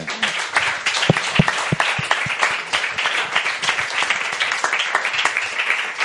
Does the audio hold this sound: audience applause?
yes